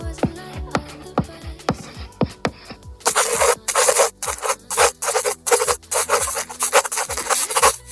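In a second-year medicine research methodology class at the University of Navarra, sharp taps and short strokes give way to a run of rapid, raspy scratches of chalk dragged across a blackboard, with softer pen-on-paper scribbling, and no voices.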